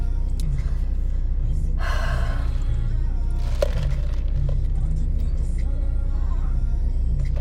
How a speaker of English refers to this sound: I'm supposed to be turning left, but there's so much traffic. Yeah, I'm supposed to be turning left, but there's like so much traffic that I'm not gonna be able to get in the left lane. So I'm gonna have to like U-turn.